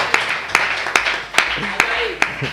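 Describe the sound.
An applause sound effect made of about six sharp, evenly spaced claps in a slow steady rhythm, over a busy background with faint voices murmuring underneath.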